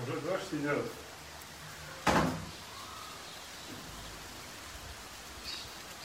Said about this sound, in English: But it's certainly... Oh, it's already raining out here.